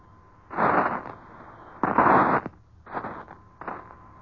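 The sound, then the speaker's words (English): Four rough, booming bursts of shore bombardment from an American warship at sea, recorded aboard by George Hicks, each a roaring half-second blast, separated by short gaps over a thin steady hiss and faint hum, with no voices. “We're trying to bring you a pool broadcast, the first eyewitness recording of the shore bombardment made by George Hicks aboard an American warship at sea.”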